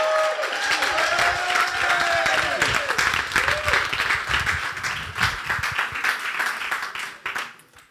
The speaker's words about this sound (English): Very warm round of applause.